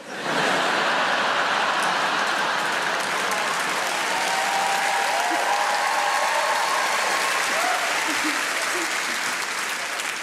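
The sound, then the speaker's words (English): A crowd bursts into steady applause that holds at an even, loud level for about ten seconds, a dense wash of clapping with a few faint cheers or voices mixed in. “That's weird to applause that, isn't it?”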